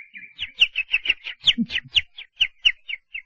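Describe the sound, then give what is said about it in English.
Two small birds twitter on a bush by the road, a quick steady run of a dozen or so bright, high chirps, with a few low soft clucks underneath and no talking. “Two birds twittered on a bush by the road, and with his new power, Asher listened to their talk.”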